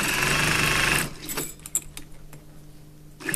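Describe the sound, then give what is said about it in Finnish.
A sewing machine stitching suspenders, five pairs sewn at a time, whirs loudly and steadily for about a second, stops, leaving a few small clicks and handling sounds, then starts stitching again right at the end. “Täältä täytyy ompelukoneen äärestä”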